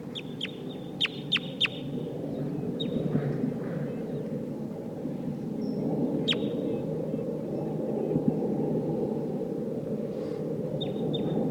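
Calls of wild crossbills of the Sitkensis type: a quick run of four sharp, high kip notes, then scattered single chips, all over a steady low rumbling background.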